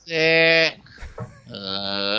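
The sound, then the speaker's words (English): Sheep bleating twice, loud, each a long wavering cry, with a short gap of faint shuffling noise between them. “I never know how many sheep come over that fence.”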